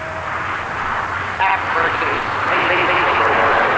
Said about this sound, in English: Time for a jet to bore a hole in the sky.